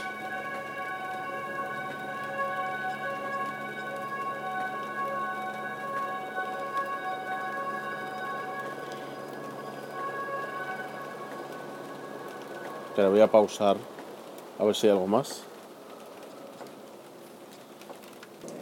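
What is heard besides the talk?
steady rain falling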